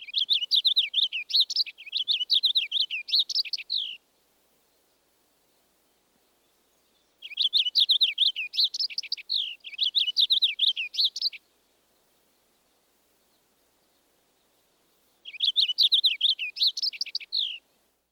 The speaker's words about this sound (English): Now we will pair the purple finch with the warbling vireo. First, the lively song of the purple finch.